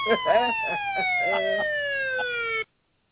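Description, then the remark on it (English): A police siren holds a steady, slowly falling electronic wail for a couple of seconds before cutting off abruptly. Voices talk over the first half. “A police siren.”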